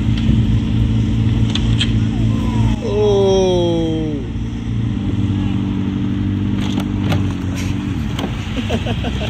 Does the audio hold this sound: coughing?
no